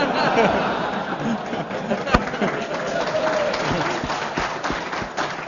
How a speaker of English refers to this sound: And all of you who just clapped, I'm taking names